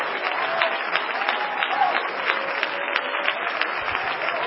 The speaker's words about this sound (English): Well, clap your hands and give the Lord some praise.